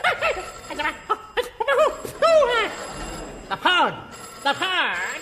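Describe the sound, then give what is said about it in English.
A telephone rings in short, warbling bursts, mixed in with excited voices and snatches of laughter, fairly loud throughout. “I thought you told me that phone was unemployed.”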